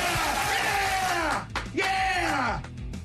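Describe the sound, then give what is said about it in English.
A crowd cheers and yells loudly, with several voices bellowing over a dense roar. The noise breaks off briefly about halfway through, then surges back up before easing slightly. “Why are we cheering?”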